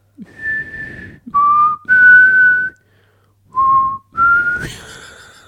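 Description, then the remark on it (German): A person whistles a short rock melody in five clear phrases, the last note sliding up into a shrill, bright tone. No talking is heard, only the fairly loud whistling. “Das ist sogar mit Pfeifen, da hätte man gar nicht.”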